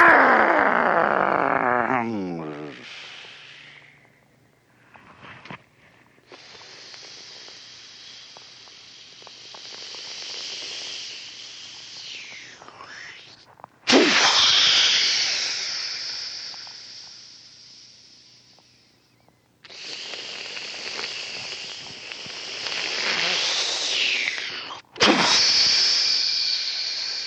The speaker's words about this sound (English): Sound of the waves. And you can sit and listen to the little waves on the seashore.